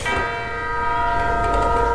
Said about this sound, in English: So it begins with a bell. It's beautiful.